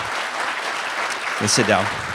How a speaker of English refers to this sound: So if you give them a round of applause, have a seat.